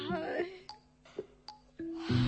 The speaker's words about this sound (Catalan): Però estem cansats i comencem a badallar.